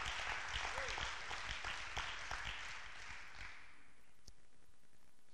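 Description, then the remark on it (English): A crowd clapping their hands unto the Lord in praise, dense, steady clapping that rings out for a few seconds, then gradually thins and fades into a quieter murmur. “Can we clap our hands unto the Lord and bless his holy name?”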